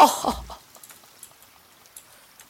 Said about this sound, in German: Ja, aber es regnet.